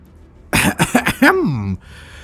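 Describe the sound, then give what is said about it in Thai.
A person clears their throat before speaking again: a quick run of three or four rough, breathy bursts that ends in a short voiced, falling 'ahem', then quiet. It sounds deliberately performed. “ตะเกิ้นหันมาสบตาสักก่อนที่จะกระแอมกระไอแล้วก็เอ่ยขึ้นอีกครั้ง”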